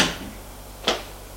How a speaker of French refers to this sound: Elle sort et ferme la porte.